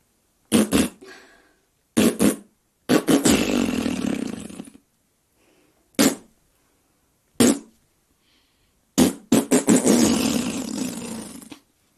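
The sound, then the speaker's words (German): A voice imitates a great bustard's courtship call: short puffing pulses followed by long, raspy, flatulent rumbles, the pattern repeated twice, loud with brief pauses between. “die Imitation des Balzgesanges der Großtrappe”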